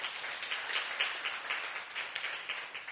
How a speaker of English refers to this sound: Yeah, we thank the worship team. Amen. Give them another big hand clap.